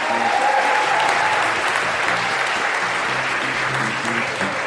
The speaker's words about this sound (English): Big round of applause for all of them, I think.